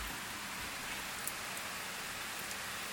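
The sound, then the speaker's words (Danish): Steady rain falls in Munkebo on a July afternoon, heard through an open door, with a broad, hissing wash and a gusty, blustery undertone of wind, a few sharper drops ticking through. Continuous, with no voices. “Ikke alene regner det, men det blæser også dejligt.”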